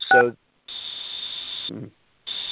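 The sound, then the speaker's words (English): A long, steady high-pitched electronic beep sounds twice on a phone line, with a short muffled voice burst before the first tone and another briefly between them. “So, somebody keeps beeping on the phone.”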